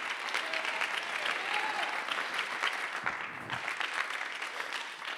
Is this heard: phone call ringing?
no